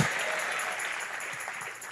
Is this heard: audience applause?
yes